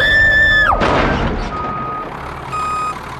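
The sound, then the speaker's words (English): A car backs up, its loud electronic warning tone sounding in spaced pulses over a low engine rumble and a brief rush of noise, with no one speaking. “I didn't even see her, David. I was backing up.”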